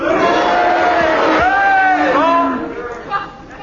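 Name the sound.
audience cheering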